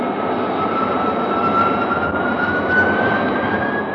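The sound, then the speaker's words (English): A steady, loud jet engine roar of an F-92K jet in flight drones on without a break, a thin high whine running through the dense rumble. No voices can be heard. “The F-92K turned nice and tightly with the aid of her flying tail.”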